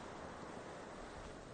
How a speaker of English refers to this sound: It's a blustery Christmas Eve. The wind is blowing. Put the headphones on, stupid. You hear the wind?